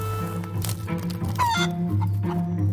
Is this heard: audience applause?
no